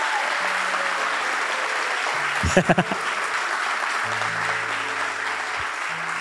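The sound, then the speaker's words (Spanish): An audience applauds steadily for about six seconds, a dense, even wash of clapping with a brief burst of louder thumps partway through. “Si va a aplaudir así, no te cree nadie. Aplaudí de verdad.”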